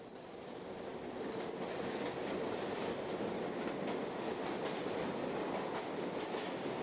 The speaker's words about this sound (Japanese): マンハッタンタイムズスクエアから地下鉄 Q トレインに乗っておよそ1時間、コニーアイランド駅に到着。